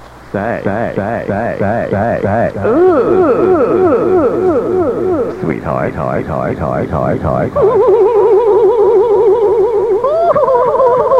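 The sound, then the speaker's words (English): A man's voice run through a heavy echo chamber effect, each short utterance repeating in rapid, wobbling, warbling echoes that fill the whole clip loudly and continuously. “I got to wondering this morning as I was playing with the echo chamber while the songs were on”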